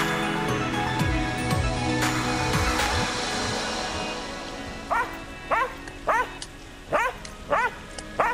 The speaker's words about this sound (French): N'aboie pas. D'après eux, tu es un chien de merde.